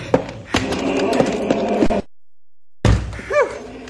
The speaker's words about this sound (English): Here. I've locked the back door.